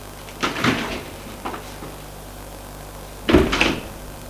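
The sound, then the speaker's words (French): A door being opened: a latch clunk and rattle, a softer knock a moment later, then a louder bang as it swings or settles. No voices. “Et lui ouvre la porte.”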